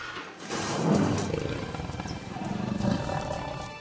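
A jaguar roars with a deep, rough rumble that swells twice, peaking early and again near the end, loud and steady with no voices.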